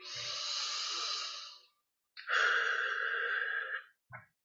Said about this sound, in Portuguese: Você se percebe, agradece. Faz uma respiração profunda.